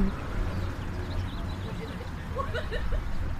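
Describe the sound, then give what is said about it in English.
Birds chirp outdoors in scattered bursts of short, bright calls, busiest toward the end, layered over a steady low rumble of background noise. “Dang, why are the birds so loud?”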